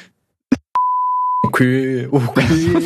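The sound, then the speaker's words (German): A short clicky sound, then a steady, high-pitched censor bleep holds one flat tone for under a second before cutting off as a voice starts talking. “Ah, ich überlege das zu piepen, mich ehrlich.”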